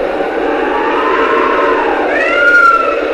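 Howling wind blows steadily, a loud whooshing rush with eerie whistling tones that rise and bend near the end, with no voices present.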